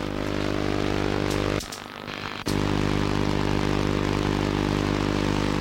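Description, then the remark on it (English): A steady, harsh buzzing drone with strong evenly spaced harmonic lines, interference from a colour television set picked up by a shortwave radio within about 2 meters of it, cuts out briefly into a duller hiss before the loud buzz returns. “And if you've ever tried to listen to a shortwave radio within about 2 meters of a coloured television set, even if the TV is in the next room, this kind of interference must be all too familiar.”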